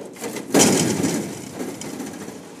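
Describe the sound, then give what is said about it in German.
The motorized gate of a large garage-like laboratory, opened by pressing a button on a smartphone, starts with a sudden clunk, then a steady mechanical whirring and rattling rumble that slowly fades as it keeps moving. No one speaks. “Und er drückt auf seinem Smartphone auf einen Knopf, und das Tor geht auf.”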